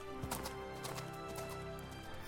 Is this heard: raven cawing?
no